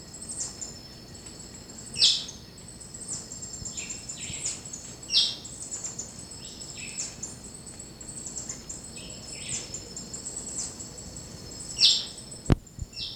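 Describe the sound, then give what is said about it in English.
A white-chinned thrush (hopping dick) in a dense vine-covered thicket in Charlie Bottom gives a few harsh, scratchy chirps spaced several seconds apart, over a steady high insect drone, with a sharp click near the end. “And that's the hopping dick, white chin thrush. The harsh chirp.”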